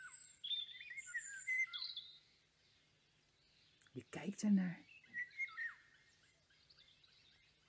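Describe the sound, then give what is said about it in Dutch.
Many birds of different species chirp and tweet on the branches of a big old tree in a garden, washing their feathers, with varied high-pitched calls, some in quick trills and others in short whistles, while a voice briefly speaks partway through. “Er zitten vandaag heel veel verschillende soorten vogels op de takken van deze boom.”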